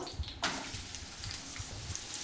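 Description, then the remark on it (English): Sliced onions hit a hot pan with a sudden, loud burst of sizzling that settles into a steady crackling hiss for the rest of the moment, with no talking. “We've got all those sliced onions. In they go.”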